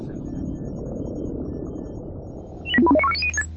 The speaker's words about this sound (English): The beeping from his board prodded Luke out of his light doze.